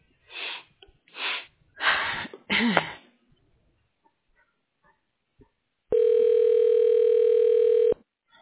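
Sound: telephone line tone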